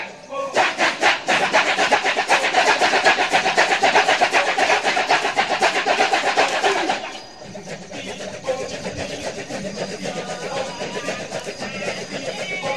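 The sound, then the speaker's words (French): A large kecak choir chants rapid, rhythmic staccato syllables in unison, imitating croaking cane toads and other amphibians, in a stage performance of the Ramayana. The chant is loud and dense for about seven seconds, then drops to a softer, murmuring layer. “Le chœur imite de manière saisissante les crapauds buffles, et puis d'autres batraciens aussi”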